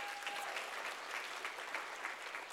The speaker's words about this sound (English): recently the dad got baptized, which was 3 years in the making. Like, God is working. Yeah, you guys can applaud that.